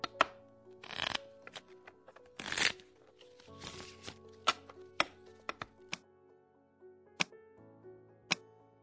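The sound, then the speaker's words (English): Tarot cards being shuffled: a few longer riffling bursts followed by scattered sharp taps and clicks as the deck is squared, over a soft, low musical drone. “Shuffle the cards well, and we'll lay out the three card spread of tarot history.”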